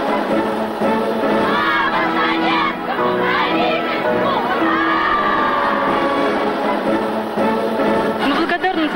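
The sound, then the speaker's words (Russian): A large audience applauds continuously for the full length, a loud, dense wash of crowd noise with many voices cheering and shouting mixed into the clapping. “Он ведь все понимает, но продолжает хлопать. И эти всенародные аплодисменты длились десятилетиями.”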